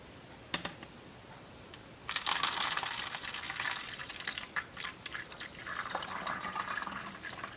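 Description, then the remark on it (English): Photographic stop bath is poured from a beaker back into its storage bottle: a sustained splashing, gurgling pour with clinks of glass, preceded by a brief tap. Moderately loud, with no talking. “So I'm going to go ahead and pour this stop bath out of this beaker back into its storage bottle.”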